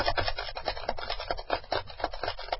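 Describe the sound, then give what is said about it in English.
A steady run of quick, clicky taps of typing on a keyboard as a patient's answers are recorded at a medical visit, about a dozen strokes in slightly uneven rhythm, dry and moderately loud with no talking. “Somebody says three, and the typing just sounds longer than that.”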